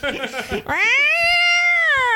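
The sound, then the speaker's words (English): A person vocally imitates two cats howling: a short burst of garbled voice, then one long, loud, drawn-out wail that holds steady and slowly sinks in pitch. “Yeah, it's like I'm up at 4 in the morning in my Bushwick apartment instead of two howling cats.”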